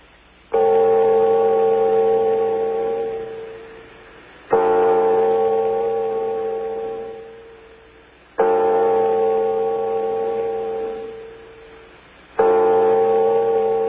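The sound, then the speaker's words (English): A clock gong strikes four times at a slow, steady pace, each loud, rich, ringing tone slowly fading before the next stroke. No voices accompany it. “Okay, I think we get the point with the gongs.”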